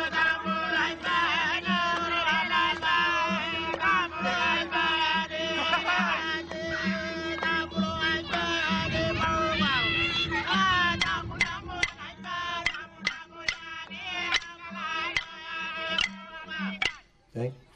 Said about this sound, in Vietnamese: Cho nên chúng ta thấy họ hát và xung quanh có thể là xe cộ chạy lung tung. Hồi nãy chúng ta nghe một cái bài hát ngoài sa mạc, bây giờ chúng ta có thể nghe một đoạn cái bài hát sinh hoạt của cộng đồng thổ dân ở trong thành phố.